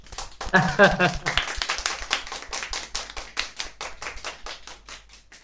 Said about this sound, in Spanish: Porque eso que haces, vamos a darte un aplauso.